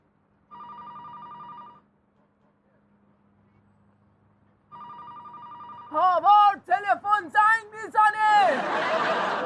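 telephone ringing

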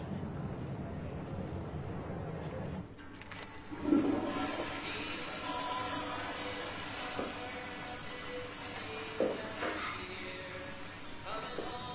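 toilet flushing

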